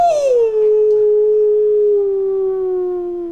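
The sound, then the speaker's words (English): A single long, loud wolf howl, starting with a brief higher note that slides down into a steady, mournful tone and holds for several seconds, fading slightly at the end. “So, das ging an den Wolfsfelsen. Cry Wolf.”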